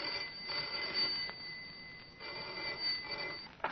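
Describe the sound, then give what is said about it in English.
A telephone rings in a few repeated bursts with short pauses between them, sounding thin, with no one talking over it. “If the trouble first appeared as the commonplace ringing of a telephone.”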